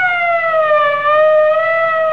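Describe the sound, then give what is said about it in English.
A loud police siren wails continuously in a film scene as the police arrive, its pitch sliding slowly down and back up in a long sweep, filling the whole moment with no voices. “Here's where the cops come in.”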